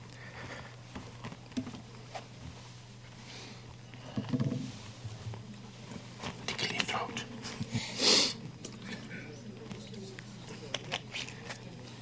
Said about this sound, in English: See, I timed my cough just for that.